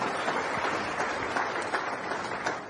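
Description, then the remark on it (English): A church audience applauding for themselves, a dense, steady wash of many hands clapping at once with no pauses, holding an even loudness throughout and no voices standing out. “Clap for yourselves.”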